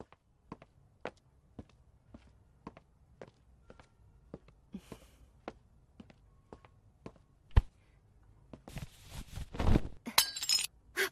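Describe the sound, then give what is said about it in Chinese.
A steady run of soft footsteps leads into a sudden crash of a glass bottle, which was inside a quilt, shattering as it is accidentally broken while the duvet cover is being changed, with bright tinkling shards scattering for a second or two at the end. “就是刚才给你换被套，不小心把里面的玻璃瓶打碎了。”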